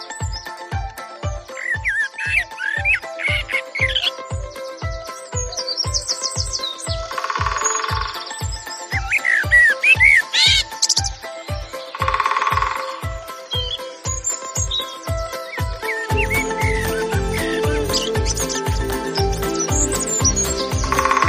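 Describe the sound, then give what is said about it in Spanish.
Assorted bird trills and chirps ring out over a steady, evenly spaced low knocking of a woodpecker tapping, with occasional louder bursts of calls; no one speaks. “Preciosidad, esta melodía de la naturaleza con los sonidos del pájaro carpintero, de los distintos trinos.”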